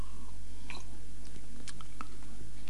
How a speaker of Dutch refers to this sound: Daarom neem ik nog maar een slokje.